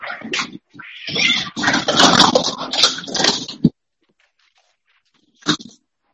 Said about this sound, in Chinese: 等一下啊，我的小猫打起来了。